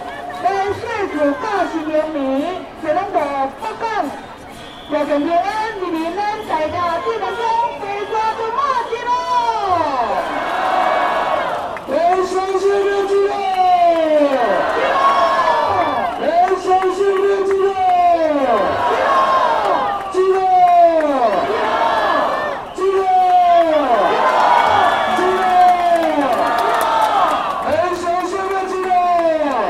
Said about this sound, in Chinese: 如果你戴着耳机，你可以从这个人群的欢呼的气氛里面感受得到，大家我们一起等待没有白费，我们一起喊着进哦进哦。